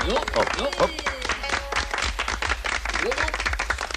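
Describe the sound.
A small group of geishas claps steadily for several seconds at a wedding celebration, a dense patter of sharp hand claps, while higher-pitched voices exclaim and chatter over the applause.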